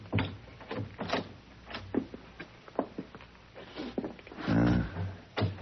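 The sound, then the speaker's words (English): A door is opened: a run of scattered clicks, knocks and rattles, then a loud, drawn-out groaning creak near the end, with no talking. “I think this is the door, Monsieur Paladin.”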